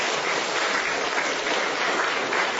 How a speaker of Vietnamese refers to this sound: Làm thì cho một tràng pháo tay thưa anh chị em.